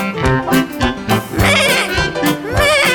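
Several quavering goat bleats, loud, repeat over a steady musical backing, each cry wobbling in pitch before fading into the next.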